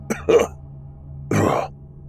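A man coughs twice, a quick pair of short hacks followed after a pause by one heavier, rougher cough, with no talking.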